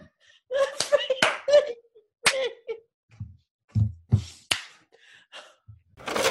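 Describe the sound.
Several sharp hand claps land at uneven intervals, mixed with muffled thumps, breathy laughter and murmuring voices between the crisp hits.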